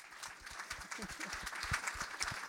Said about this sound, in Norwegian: Han har gått til Sydpolen med …-maske I trynet, og han her I kveld, det helt rått. Applaus for AK.